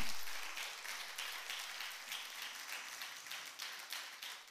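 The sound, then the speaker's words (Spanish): A church audience applauds steadily at the preacher's request, many hands clapping at once in a dense, continuous patter that swells in soft pulses, with no one speaking. “Denle un aplauso, a ver, un cachitito nomás. Pero apláudale fuerte, papá.”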